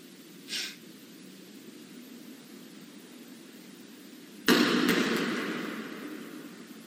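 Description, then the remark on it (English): After a short faint scrape, a heavy ball flies off a chair, drops with a sudden thud and then rolls across a hard floor, its low rumbling steadily fading over a couple of seconds. No one speaks. “So the rescuer went up and got the tape, and we caught that ball flying off that chair rolling across the floor.”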